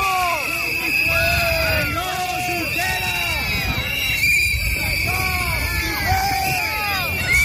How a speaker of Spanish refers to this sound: Traidor o butiflé. Butiflé es como una especie de traidor, ¿no?, que también se dice en catalán, es lo que gritaban al líder de Esquerra.